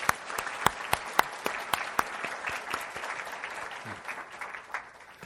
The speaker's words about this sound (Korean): 그리고 우리가 은혜롭게 예배를 드릴 수 있도록 보이는 곳에서 또 보이지 않는 곳에서 1년 동안 봉사에 손길을 다한 우리 봉사자들에게도 우리 감사의 박수를 드릴까요?